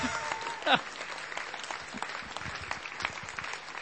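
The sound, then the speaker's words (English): An audience claps steadily to welcome several couples coming down to the front, a dense, continuous patter of many hands, with a brief louder burst early on and faint voices mixed underneath. “Shall we welcome them by applauding?”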